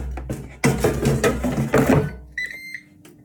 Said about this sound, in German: Ihr habt das Piepen gehört.